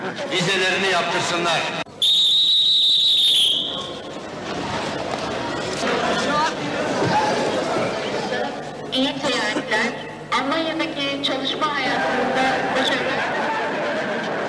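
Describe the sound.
A busy railway platform where workers are to leave by train that evening. A dense crowd of voices chatters throughout, cut early by one loud, shrill whistle blast that lasts over a second before the bustle carries on.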